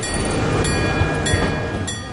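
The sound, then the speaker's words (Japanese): A Randen streetcar in Kyoto, Japan rumbles along its rails, a steady low mechanical roar with faint periodic thumps and a thin high whine running throughout. “ランデンですね。路面電車ですから、まあ日本では珍しいんちゃいますか。今そう、東京とか大阪とは違う音がしてると思います。”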